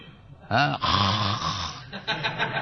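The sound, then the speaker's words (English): A person imitates loud snoring with their voice, mimicking yoga practitioners in America snoring while meditating: a couple of drawn-out rasping snorts in quick succession, prominent, with a short breathy tail. “They close their eyes, and I do not know what they are meditating, but I have seen they are snoring.”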